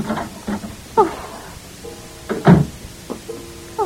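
A front door off a porch is unlatched and swung open at night, with a few wooden knocks and clicks and a drawn-out creaking hinge squeal in two stretches, heard clearly with no voices.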